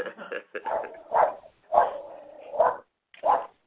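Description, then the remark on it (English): Several sharp dog barks ring out in an irregular series, about five or six bursts over a few seconds, clear with brief pauses between them. “I always am happy when I hear your dogs bark, but I know you're with us.”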